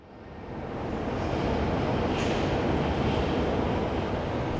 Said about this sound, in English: I'm at the train station.